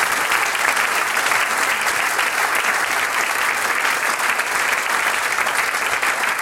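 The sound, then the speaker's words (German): Steady, dense applause from an audience for a young harmonica competition contestant, many hands clapping at once in a continuous bright crackle that holds an even loudness throughout, with no voices standing out. “großartig, das ist dein Applaus.”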